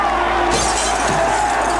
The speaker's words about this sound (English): throws a rock through the painted window. Another boy throws one.